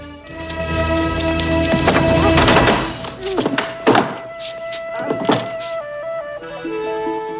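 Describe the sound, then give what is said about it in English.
A woman slams a door with a heavy thunk, followed by a couple more solid thuds as she bars it, all over sustained, tense orchestral music. “She slams a door and bars it.”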